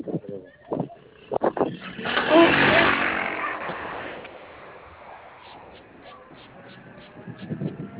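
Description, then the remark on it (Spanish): A motorcycle engine roars up loudly for a couple of seconds, then fades into a lingering rumble, with people talking briefly before and after; two motorcycles are there. “Tienen dos motos allá.”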